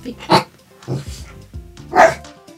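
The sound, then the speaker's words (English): A dog named Carrot barks twice, loud, with a pause of over a second between the sharp barks and a softer low rumble in the gap. “Additional music by …, with barking by Carrot Riddle Rial.”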